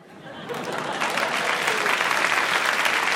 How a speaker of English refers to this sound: And the applause there tells you Carr had scored. His side won that night.